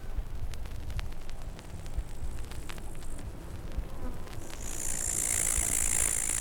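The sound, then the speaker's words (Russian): A steady low industrial rumble of the Magnitogorsk works runs throughout, dotted with faint clicks, while a shrill, continuous trill of grasshoppers and buzzing of mosquitoes swell in loudly over the final seconds, heard from the slopes of Magnitnaya Mountain. “Треск кузнечиков, жужжание комаров и дыхание завода.”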